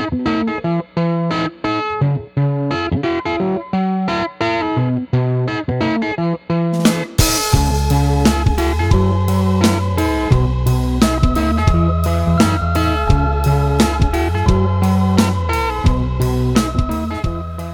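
A lo-fi rock version of a Latin-inspired melody, with sparse, choppy notes that give way to a full band after a few seconds: gritty guitar with British rock-style distortion, a slightly out-of-tune keyboard, driving bass and drums. No voices.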